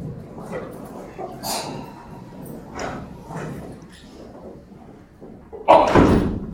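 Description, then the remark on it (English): A door is shut with a loud slam near the end, after a few fainter thuds and knocks of other doors closing amid a murmur of people settling into their chairs before a guided visualization exercise. “I see some doors being shut.”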